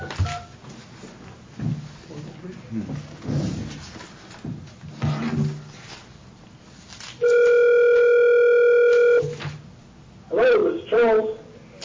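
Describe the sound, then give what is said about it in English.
A steady, loud telephone dial tone holds for about two seconds, preceded by muffled voices and handling noises, then brief dialing beeps follow near the end as a call is placed from the Taney County Board of Equalization. “So do we need to get him on the phone?”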